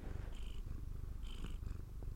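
animal, cat purring

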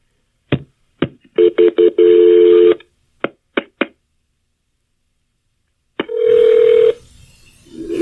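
signal or alarm, telephone ringing

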